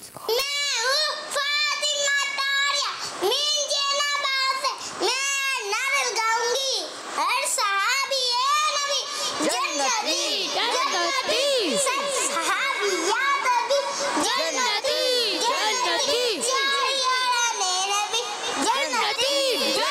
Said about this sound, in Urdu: ماشاء اللہ ماشاء اللہ آپ نے نعرے لگائے ماشاء اللہ.